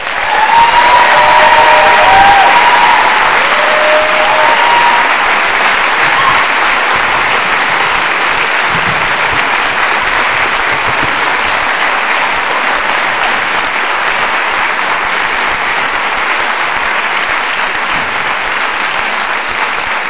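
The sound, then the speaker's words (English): Sustained applause from a large audience welcoming the chair of the Vancouver School Board at a Sunday event in support of children's services, a dense steady clatter of clapping that stays loud throughout with a few brief whistles or cheers early on, slowly thinning toward the end. “That's a very warm welcome.”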